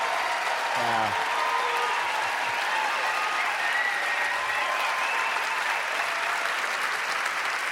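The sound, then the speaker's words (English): Steady, sustained applause from a large audience in St. Paul after Mayor Chris Coleman proclaims The Morning Show Day, a dense wash of clapping that holds at an even loudness for several seconds with no one speaking over it. “You got to appreciate a politician who knows where the laughs are, you know, the laugh lines, the applause.”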